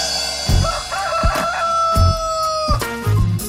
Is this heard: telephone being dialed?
no